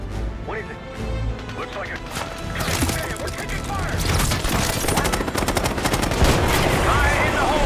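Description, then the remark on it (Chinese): Sustained machine gun fire rattles in rapid, dense bursts, loud, sweeping at anyone in sight, building after a quieter start and continuing to the end, with voices and other game-like noise underneath. “哦，得只机。系，冇错。扫啦，见人就扫啦。”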